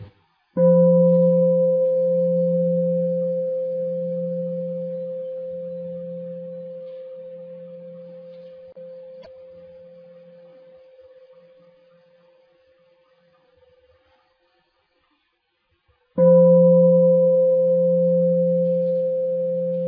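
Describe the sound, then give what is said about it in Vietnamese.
A deep meditation bell is struck to close a day's meditation session, its low humming tone ringing out and fading slowly over about fifteen seconds before a second strike rings out just as loudly. No one speaks. “Bây giờ mời đại chúng lắng nghe ba tiếng chuông để chúng ta kết thúc khóa thiền ngày hôm nay.”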